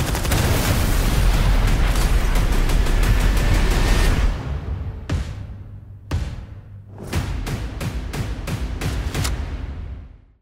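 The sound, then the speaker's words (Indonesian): Dense, roaring explosions from a movie trailer fill the first four seconds, followed by a string of sharp, booming blasts and hits with brief gaps between them, loud and cinematic, with no talking. “Nah, begitulah. Macam itu. Ledakan-ledakan ya.”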